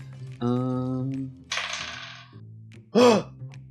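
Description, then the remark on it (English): Dice rattle and clatter across a table for under a second, fairly loud, rolled in a tabletop game to decide whether a character fights or dodges, framed by a drawn-out hummed vocal sound before and a short exclaimed vocal burst after. “I'm gonna roll a dice to see if he's got the fight or flight.”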